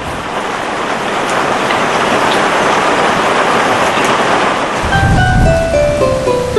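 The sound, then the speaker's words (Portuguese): Steady, dense rain pours down with a constant hiss, joined near the end by a low rumble and a few faint tonal sounds in the background; no one speaks. “Este ano, a chuva escreveu um novo roteiro.”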